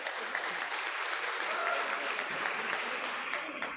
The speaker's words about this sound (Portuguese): Quero já pedir uma salva de palmas para o Caçapava.